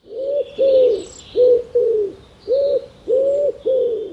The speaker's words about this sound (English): Wood pigeons have a deep rhythmic song, usually of five notes.